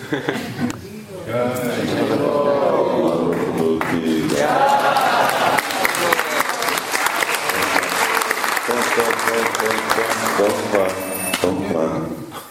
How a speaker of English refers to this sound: Clapping is during kirtan.